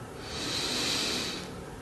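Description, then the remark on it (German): A single deep, airy inhale drawn in steadily for about a second and a half during a guided group meditation, fairly soft, with no talking over it. “Wir nehmen alle zusammen einen tiefen Atemzug und atmen ein”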